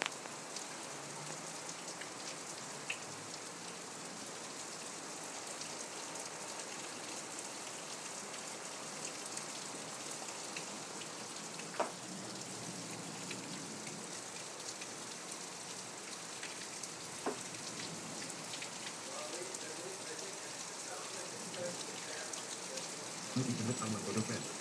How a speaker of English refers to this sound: I want you guys to hear the rain. Listen.